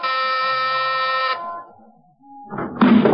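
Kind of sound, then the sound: household object, doorbell ringing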